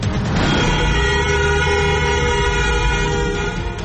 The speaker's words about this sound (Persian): بوق‌های ممتد خودروها در 20 شب اعتراضات ایران.